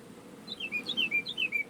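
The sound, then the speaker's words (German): A bird chirps in a quick series of bright, descending tweets, repeated about three times over a low background hum, heard clearly through the open door of a van parked in a village in Franconia, Germany. “Ich muss mal kurz, wo der Vogel hier gerade rein zwitschert.”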